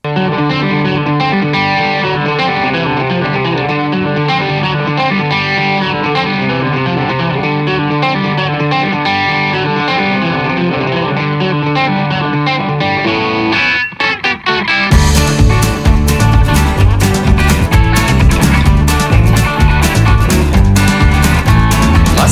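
A recorded rock song plays, its effects-laden, distorted guitars holding a steady sound before a brief break and a louder, fuller band section with pounding drums. No voices are heard.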